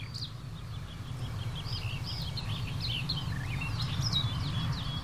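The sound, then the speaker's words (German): An icterine warbler sings a busy run of high, varied chirps and whistles, mimicking a red kite's mewing call, over a steady low rumble of background noise. “Da wieder der Rotmilan.”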